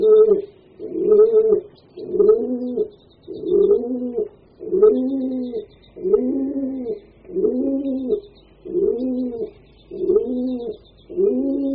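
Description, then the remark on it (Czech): Pigeons coo steadily in a repeated rhythm, a series of soft, throaty burbling calls about once per second, with faint higher chirps in the background. “Mohutné věže se silnými zdmi, zvenčí navíc podepřené pilíři, poskytovaly útočiště tisícům a tisícům holubů.”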